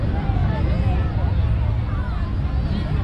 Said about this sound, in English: Big motorcycle. Harley Davidson's coming up. Harley Davidson.